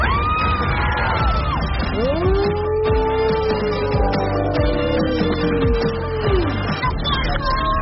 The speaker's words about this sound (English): They're cheering you on.